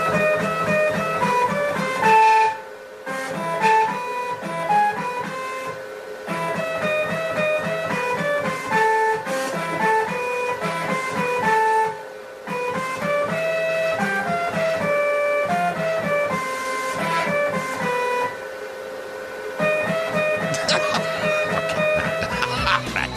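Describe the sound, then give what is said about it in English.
Buzzy, whining stepper motors of a 3D printer play a classical melody by Beethoven, their electronic tones stepping from note to note in a steady rhythm, loud, with brief pauses between phrases. “3D printer plays Beethoven.”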